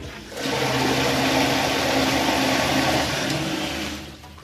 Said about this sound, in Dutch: dan gaan we in ieder geval eens proberen hoe de toiletten in zijn totaal doorspoelen. En we beginnen met toilet nummer 1.